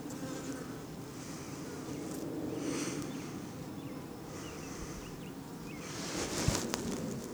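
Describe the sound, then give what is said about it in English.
A steady, droning hum of many honeybees buzzing on a beehive frame about a third covered with bees, continuous and fairly even in loudness, with a brief faint click near the end and no voices. “And the frame is lightly covered, probably about by a third with bees.”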